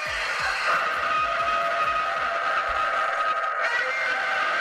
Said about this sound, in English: It's Godzilla. They got a Godzilla car horn, and then just in time for the Thanksgiving holiday, they also have a turkey car horn.